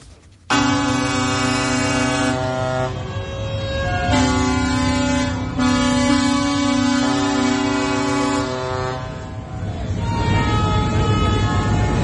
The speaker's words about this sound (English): Now, you'll know that we've been hearing some very, very loud protests from those tractors up and down Whitehall for such a long time now.